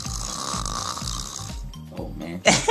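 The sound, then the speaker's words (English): A person imitates snoring: a rapid, throaty rattling drone in quick repeated pulses, ending in a sharp, louder breathy snort. “Yeah, man, I'm going to give them some snoring, man.”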